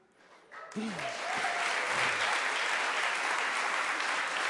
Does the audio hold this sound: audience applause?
yes